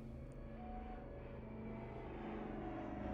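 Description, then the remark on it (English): A steady engine drone with layered low tonal hums, growing slightly louder over a few seconds, like a propeller plane, as a plane approaches over the mountains. No voices. “The sound of an approaching plane broke George's train of thought.”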